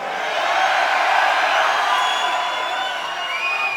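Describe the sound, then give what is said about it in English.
A large concert crowd in Chicago screams and cheers in a sustained, loud roar, with piercing high-pitched shrieks and whoops cutting through the steady wall of noise for the whole stretch. “You like to scream out there, Chicago?”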